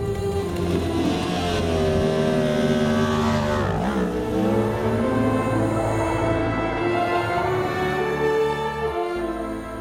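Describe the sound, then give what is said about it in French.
A loud motorcycle engine idles roughly, revs up with a sharp rising and falling whine partway through, then keeps droning steadily as it pulls away, with no voices. “Merci d'avoir pris soin de ma moto”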